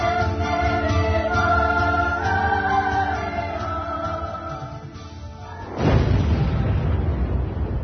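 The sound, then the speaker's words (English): A steady, tonal droning hum gives way near the end to a sudden loud explosive blast, a big squib from the sky lobby band of one of the Twin Towers, which then rolls on as a heavy, sustained roar of rumbling noise. “Watch a big squib coming from the sky lobby band.”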